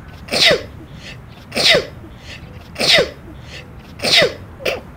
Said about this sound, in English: Oh, the excitement and exhilaration of a sneeze in the wild. Happy little explosions created by the noble nose.